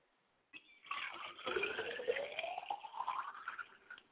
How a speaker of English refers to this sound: So I like to pour libation to my father's spirit, and I say, Ashe.